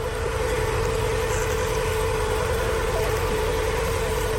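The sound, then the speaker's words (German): A snake robot's mechanical movement: a steady, continuous motorized whirring with a constant mid-pitched hum and rough low rumble, unchanging in loudness throughout, with no voices. “Wenn Menschen sie nachbauen, klingen sie gleich viel technischer und maschineller.”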